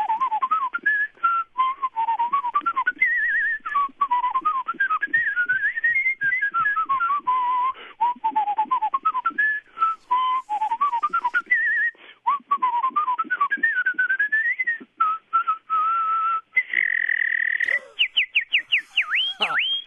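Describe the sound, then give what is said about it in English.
A person whistles a continuous, wandering melody with slides and trills, ending in a run of rapid, warbling chirps that mimic birdsong. No one speaks over it. “It tends to get a lot of attention because there's some bird sounds included with it.”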